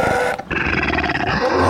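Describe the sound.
A human voice does a loud imitation of a lion trying to bray like a donkey: a raspy, growling roar, a brief break, then a longer strained hee-haw-like growl.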